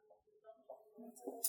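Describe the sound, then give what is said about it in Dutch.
A pot is flipped onto a plate to turn out a molded couscous cake, with a few soft clinks and scrapes, ending in a brighter clatter of ceramic and metal. “En die gaan we nu het bordje plaatsen, omdraaien. Dan komt hij los.”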